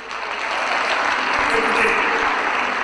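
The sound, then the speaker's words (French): Sustained audience applause for a businessman from Burkina Faso seated at the back, a dense steady wash of many hands clapping at an even loudness for the whole stretch, with faint voices mixed into the noise. “Mais vous l'applaudissez, il est assis derrière.”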